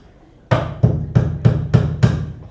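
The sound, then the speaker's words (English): Six sharp hammer blows strike nails in a steady, even rhythm, each impact ringing briefly with a metallic thud, fairly loud, with no voices. “And he grabs some nails and a hammer.”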